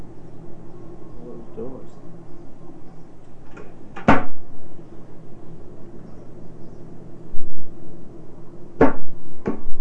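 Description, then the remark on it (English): Cabinet doors open and shut with sharp, hard clacks, two loud knocks a few seconds apart plus softer taps, over a steady low hum with faint murmuring in the background. “Tell me about that cabinet and all those doors.”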